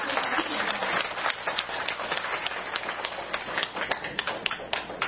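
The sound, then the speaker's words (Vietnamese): Buddhist followers applaud steadily for about five seconds to welcome a visiting Venerable monk lecturer. Dense overlapping claps fill the space at a fairly even level, with no one speaking over it. “Quý Phật tử chúng ta cho một tràng pháo tay thật đồng nhẹ.”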